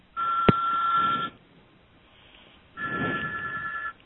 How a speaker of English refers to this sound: Yes, the wonders of live radio. Phones go off and one knows. Always fun.